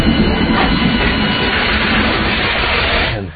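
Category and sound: vehicle, train moving on rails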